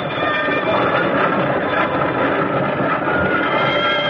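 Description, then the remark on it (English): A 1910 police fire charge fire truck rushing along in New York City, responding to a firebox alarm at a tenement building, a loud, steady roar of rumbling noise with faint high ringing tones running through it for about four seconds, no voices. “A fire truck, a police fire charge, responded.”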